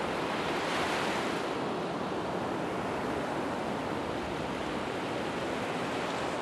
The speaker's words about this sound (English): I wanted to describe the sea for you, but every time I face this blue, astonishing vastness, I can't find the words. So I just stare at it and listen.